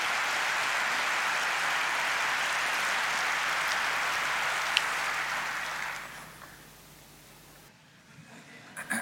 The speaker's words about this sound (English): We have this tech fund that is just there for these underfinanced open source projects. I think that is worth an applause.